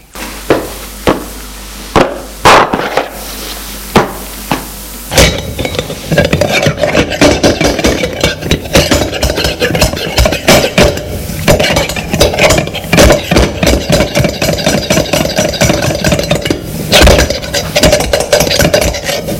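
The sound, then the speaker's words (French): An iron bar hammers and pries at a rusty metal lock on a simple wooden door: a few sharp, separate clanks at first, then a long stretch of dense, loud rattling, grinding metal with no voices, until the lock gives way and falls to the ground. “Après de nombreux efforts, la serrure qui tenait par quatre coups, rouillée, cède et tombe à terre.”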